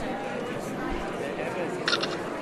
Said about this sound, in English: We got a picture. And as soon as you hear that shutter sound, you can take your paper, your document sure, away. Sure, because it has the picture already.